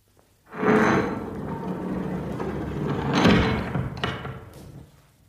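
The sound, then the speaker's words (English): A heavy door with a radiation sign on it grinds and rumbles open in one long, sustained movement, with a louder scraping surge partway through and a dull thud near the end, fairly loud. “Here's the door.”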